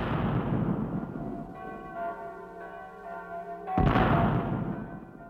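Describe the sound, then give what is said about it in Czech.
The bells of all the churches peal together at 9:00 in Austria-Hungary, their strikes overlapping into a dense, ringing wash with sustained metallic tones hanging in the air between fresh clangs, loud with no voices. “Přesně v 9:00, když jsem spatřil světlo světa, začaly vyzvánět zvony na všech kostelích, začaly vojenské parády, střílelo se, hudba hrála a prapory vlály.”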